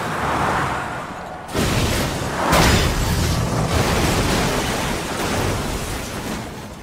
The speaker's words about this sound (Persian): چی شد؟ چی شد؟ تصادف کرد.